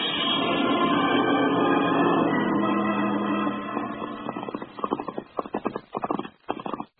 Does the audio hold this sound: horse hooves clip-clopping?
yes